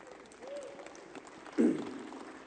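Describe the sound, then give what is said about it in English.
An audience claps its hands for the praise team in a soft, steady patter of many hands, swelling louder for a moment partway through, with a brief voice calling out over the clapping. “So give the praise team another hand clap tonight.”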